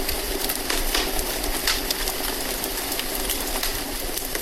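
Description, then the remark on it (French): A wood fire crackles steadily, with irregular sharp pops and snaps scattered over a constant hiss. No voices are heard. “Ce bruit me rappelle l'été, le crissement du bois lors des grillades.”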